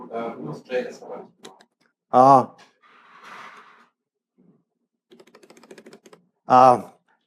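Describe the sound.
A quick run of light, rapid keystrokes clatters on a computer keyboard for about a second, with people talking and a couple of loud vocal bursts around it.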